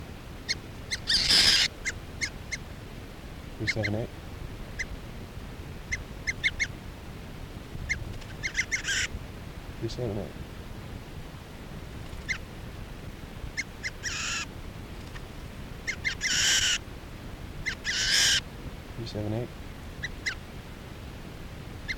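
A bird, number 378, being handled gives repeated harsh, raspy squawks in short bursts at irregular intervals, with a few lower, nasal honking calls mixed in. No one speaks.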